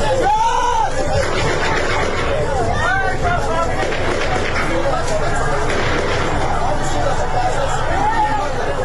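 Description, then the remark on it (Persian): A large crowd of protesters and worshippers at the Makki Mosque in Zahedan, Iran, shouts and screams in chaotic unrest, voices rising and overlapping, while sharp cracks of gunfire from police station 14 forces cut through the loud, continuous din. “در همین زمینه کولبر نیوز نوشت نیروهای کلانتری 14 زاهدان به سمت مردم معترض و نمازگزاران مسجد مکی زاهدان تیراندازی کردند.”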